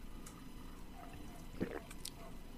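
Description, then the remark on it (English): A single wet gulp of water being swallowed right into the microphone, a brief liquid squelch over a low background hum. “Oh man, that swallow just right into Mike. That water swallow.”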